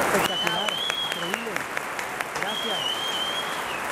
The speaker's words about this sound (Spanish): Un aplauso, por favor.